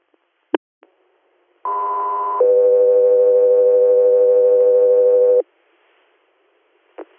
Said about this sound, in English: Echo 3, stand by for tones.